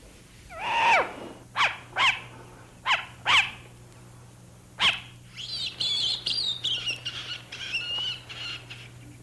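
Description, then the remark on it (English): A series of sharp, raspy bird calls from a short-eared owl, several distinct bursts in irregular rhythm, followed by a softer run of rapid, higher chattering notes, clear with no talking. “Now this one is a short-eared owl.”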